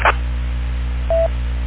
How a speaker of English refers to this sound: Okay, very good. Just get the beep tone there.